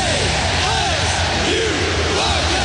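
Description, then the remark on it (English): A loud stadium crowd roars steadily, a dense wash of many voices with individual yells and whoops rising out of the din throughout, with no break. “Hear the roar. Scream the chant.”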